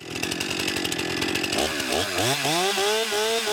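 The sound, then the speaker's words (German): A chainsaw, run by a forestry trainee at a forestry school in Brandenburg, Germany, roars loudly through wood, its engine pitch dipping and rising as the blade bites in and revs back up, steady with no voices. “der Mann mit der Säge, ist für den Ausbildungsplatz aus dem Erzgebirge nach Brandenburg gezogen.”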